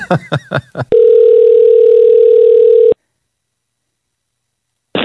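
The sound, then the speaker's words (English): Several quick telephone keypad tones as a long phone number is dialed, then a steady, loud phone dial tone holding for about two seconds before cutting off into silence, with a brief burst of sound at the very end. “Yeah, and we got another text that I have to call this person. Okay. Up. All right. That's a long phone number.”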